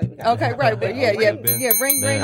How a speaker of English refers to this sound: So all right. We got our bell.